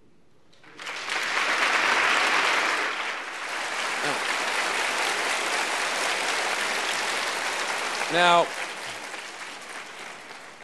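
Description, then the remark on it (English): A crowd at a sermon applauds steadily for about ten seconds, dense clapping that swells early and then holds level, while a man briefly speaks over it near the end. “you guys never clap for my sermons.”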